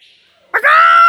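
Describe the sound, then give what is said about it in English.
A parrot at a zoo lets out one loud, harsh squawk that starts abruptly after a quiet moment and holds raspy and shrill until the end. No one speaks. “The parrot is not my favourite animal.”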